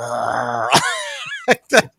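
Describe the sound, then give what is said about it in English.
A female dog gives a low, steady rumbling growl, then a sharp burst breaks into a wavering whine that slides downward, followed by two short, loud vocal bursts. “She typically can't see me, but I can hear her growling”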